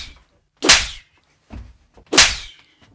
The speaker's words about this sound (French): Et enfin, bon peut signifier violent. Une bonne paire de claques. J'aime bien Boris Vian, mais sur celle-là, on l'utilise très souvent dans une bonne gifle.